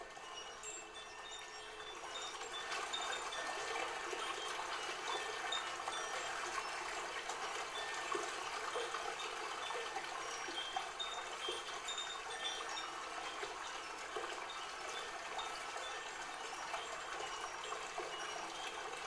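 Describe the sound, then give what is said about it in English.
Flowing river water rushes steadily, a continuous bright hiss and babble that stays even in loudness throughout, with no voices or other sounds. “Look at the water flowing.”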